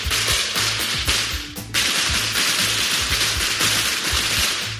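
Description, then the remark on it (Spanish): A dense, loud barrage of firecrackers set off in the streets of Barcelona during the traditional verbena celebrations crackles and pops almost without pause, with sharp bangs layered over a steady, rhythmic low thumping throughout. “Ahora mismo el ruido que más se escucha es este, el de los petardos.”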